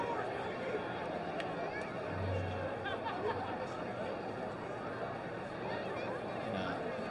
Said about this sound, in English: Big crowd tonight on hand. Lower bowl has been buzzing, and the stadium has been buzzing, especially if they're not scoring three in the last half inning.